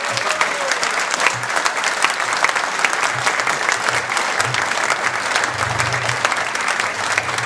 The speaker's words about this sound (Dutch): Dames en heren, ik vraag uw applaus voor Remco Kampert.